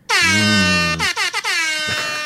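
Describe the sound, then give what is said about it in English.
A loud, brassy air horn sound effect from a defective iPhone air horns app blares in one long sustained blast, then stutters into a few short choppy bursts before holding again, its rich harmonics buzzing with no one talking. “Oh, if you could only see the defective air horns iPhone app.”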